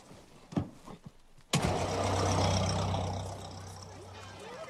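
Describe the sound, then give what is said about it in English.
A few clicks and thumps, then the engine of a chauffeur-driven motor car starts with a sudden burst and settles into a steady, rumbling idle. “Later, Henry assists Toby and his grandmother into the motor car.”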